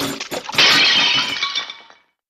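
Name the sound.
dishes breaking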